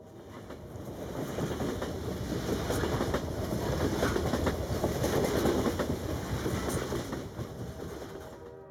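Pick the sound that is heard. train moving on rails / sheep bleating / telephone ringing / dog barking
train moving on rails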